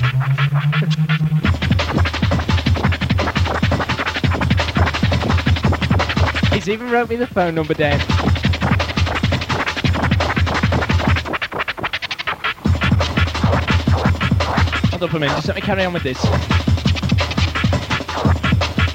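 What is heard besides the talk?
DJ turntable scratching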